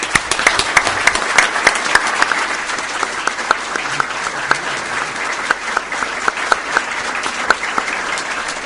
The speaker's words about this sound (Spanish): Así que les pido un fuerte aplauso para ellos y muchísimas gracias.